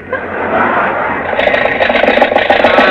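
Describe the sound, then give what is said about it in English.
A car engine runs with a steady, muffled roar, then turns rough and uneven, coughing and sputtering in irregular bursts as it falters because the car has run out of gas. No voices are heard. “Now you've done it, we've run out of gas.”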